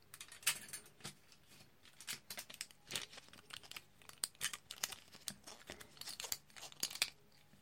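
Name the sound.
keys jangling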